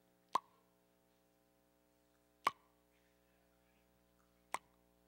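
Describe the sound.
Three crisp water drops from a dripping shower plop at a slow, steady pace about two seconds apart, each a sharp isolated splat over a faint constant hum, with no talking.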